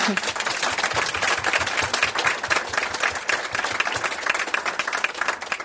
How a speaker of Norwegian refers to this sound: Bli klappet ut, det ikke verst.